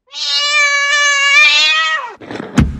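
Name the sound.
cat yowling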